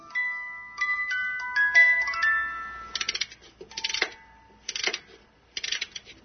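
A few bright, tinkling notes ring out from a music box shaped like a Venetian gondola, followed by several short bursts of rapid ratcheting clicks as a small key mechanically winds the mechanism, with no talking.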